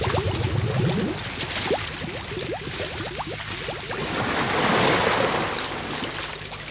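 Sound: splashing water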